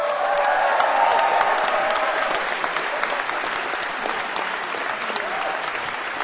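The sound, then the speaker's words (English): A crowd at a live show applauds the artists who came on stage, clapping steadily for several seconds in a dense, even wash at constant loudness, with a few faint cheers rising above it early on. “So, just like to say, you have been magnanimous with your applause for all the artists who came on stage tonight.”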